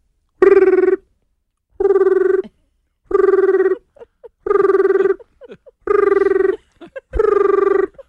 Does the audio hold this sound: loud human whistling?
no